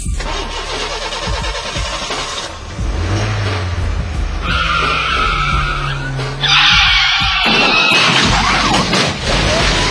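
A car engine revs and roars as tires skid and screech, ending in a loud, harsh burst of noise as the car crashes into a police car. The sounds are dense throughout.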